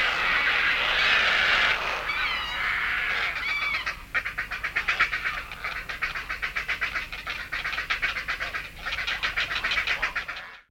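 A colony of herons at a heronry erupts in harsh, raucous shrieks of alarm as they fly off while an African hawk eagle lands on one of the nests. A dense continuous clamour at first breaks into rapid, rhythmic repeated squawks, loud, with no voices.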